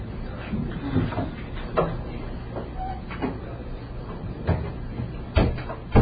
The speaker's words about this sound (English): Maybe we could shut that door.